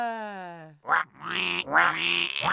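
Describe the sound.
A person imitates a duck doing sinister quacking: a low, drawn-out vocal tone slides downward, followed by three or four loud, raspy, nasal quacks in quick succession.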